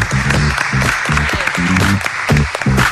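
A crowd claps steadily and loudly for about three seconds, a dense wash of hand claps with a few voices and cheers mixed in underneath.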